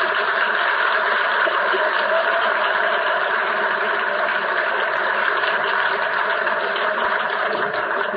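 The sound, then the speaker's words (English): A car engine runs steadily as the car leaves, with a continuous, fairly loud rumble and hum that holds level throughout, with no voices over it. “has got the car all packed again, so we're going back.”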